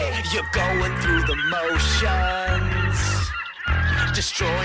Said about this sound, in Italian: Hai la voce dell'uccello di Hitchcock